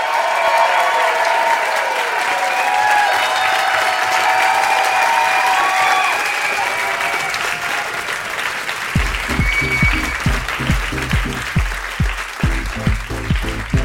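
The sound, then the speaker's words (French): A large theatre audience at the Carreau du Temple applauds steadily with scattered whistles and cheers. After several seconds, rhythmic low thumps, like stomping or clapping in unison, join the dense, sustained ovation. “Mais après le journal de 23h, quelle est cette foule qui vibre? Bonsoir, foule sentimentale du carreau du temple!”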